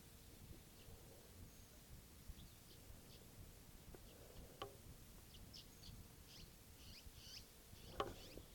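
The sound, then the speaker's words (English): A wild bird gives faint, high, short chirps in scattered bursts over steady low rumbling background noise, with a couple of sharper clicks breaking through. “So, it's recording that wild bird.”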